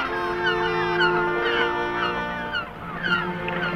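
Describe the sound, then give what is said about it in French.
Seagulls crying through fog in a steady, overlapping chorus, with shrill, repeated calls rising and falling continuously over a dense background of the flock, fairly loud throughout. “Seul, perçant la brume, me parvient le cri des mouettes.”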